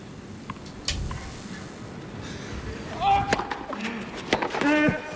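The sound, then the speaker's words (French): A tennis serve by Novak Djokovic followed by a winning crosscourt backhand volley: a few sharp, crisp ball pops spaced a second or two apart, over a hum of arena noise and faint voices. “Il fait service volé et volée gagnante croisée de revers, magnifique.”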